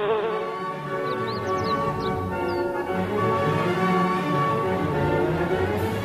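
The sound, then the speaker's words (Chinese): A steady drone of bees buzzing continues throughout, full and unbroken, with a few faint chirps flickering high in the background. No one speaks. “后来遇到了蜜蜂，还帮它们采了一些花蜜哦。”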